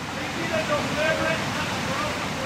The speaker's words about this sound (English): to most people, this is a waterfall, a 20-foot, nearly 90-degree class 5 plunge into a deep rocky gorge.